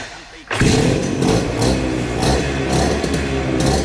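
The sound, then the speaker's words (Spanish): A motorcycle engine fires up after a brief quiet moment, then runs loud with a steady rumbling idle and occasional slight revs. “Un sonido que nos lleva a este otro, el de la primera moto que terminó comprándose, no sin cierta bronca familiar.”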